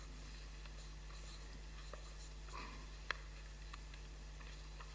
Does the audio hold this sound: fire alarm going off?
no